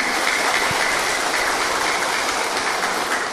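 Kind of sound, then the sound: crowd, round of applause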